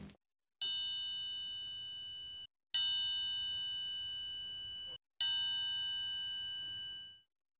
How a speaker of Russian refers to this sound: Цыпленок стоял, и вдруг услышал тихий звон.